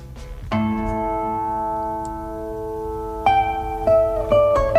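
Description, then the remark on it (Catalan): Tàrrega's classical piece Capricho Árabe, with an Arabic-tinged flavor: a single plucked chord rings out and sustains, then a short run of clear plucked notes follows, fairly loud, with no voices. “Sí, posa la següent, que així posem musiqueta.”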